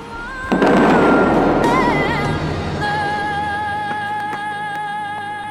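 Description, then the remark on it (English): A sudden loud cannon-like boom as fountain water jets on the Las Vegas Strip blast hundreds of feet into the sky, followed by a sustained roaring rush of spraying water, with music playing steadily throughout. “As the song picks up, the water blasts hundreds of feet into the sky. The force is so powerful, it sounds like a cannon.”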